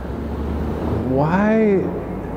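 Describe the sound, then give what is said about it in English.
A police car barrels past, its emergency siren swelling in a single rising-and-falling wail over a steady low rumble of road traffic, narrowly avoiding an ambulance going the other way; fairly loud but brief, then fading back into the background hum. “Man, just a cop car just went barreling by, narrowly avoiding a paramedic ambulance thing that's going the other way.”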